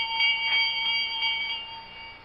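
A small bell rings continuously with rapid, repeated strikes, its bright, high metallic tone sustained throughout and fading slightly near the end. There is no talking.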